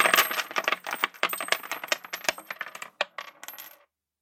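Coins clink and jingle into the bottom of a metal can, a rapid run of bright metallic taps and rattles that gradually thins out and settles into silence. Fairly loud, no voices.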